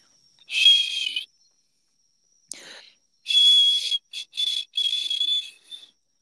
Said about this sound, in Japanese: 壊れたホイッスルみたいな音しか出ない。割れた笛ラムネ。